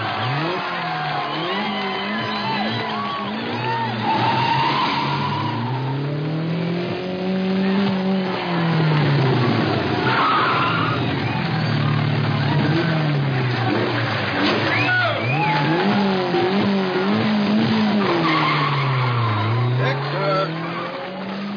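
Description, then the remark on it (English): A car engine revs hard again and again as the first car gets underway on a cross-country record run, its pitch sweeping up and down, while tires squeal and skid. The sound is loud and continuous throughout. “Okay, let's get that first car up here. We're going to get this thing underway.”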